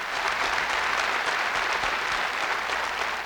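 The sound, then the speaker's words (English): Sustained applause from a large crowd at a Marine Corps graduation day fills the whole stretch, a dense, steady wash of clapping hands at even loudness with no voices standing out. “The applause you had earned, the words of your battalion commander you had earned.”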